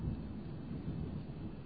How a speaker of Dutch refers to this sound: Hoor je het donderen?